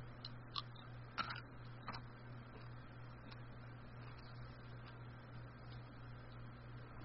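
Close-up crunching of M&M's fudge brownie chocolate candy, with a few sharp crisp bites near the start fading into softer, quieter chewing over a steady low hum.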